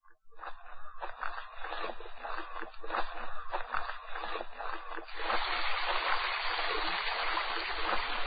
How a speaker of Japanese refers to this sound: そうこう話す間に、西の湖から琵琶湖へ流れ出す川が現れる。